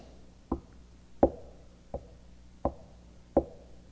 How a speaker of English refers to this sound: I'm knocking. Not an Arminian knock, but a Calvinistic, a Reformed knock.